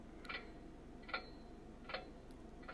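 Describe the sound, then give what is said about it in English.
A clock ticks steadily, four soft, crisp ticks spaced evenly under a low background hum, with no voices. “The clock becomes audible again.”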